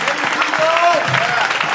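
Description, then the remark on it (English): The New Creation Fellowship audience claps for the Rock of Ages in a steady, dense burst of applause, with scattered voices and a few sustained cries rising over the clapping throughout. “Rock of Ages, clap for me.”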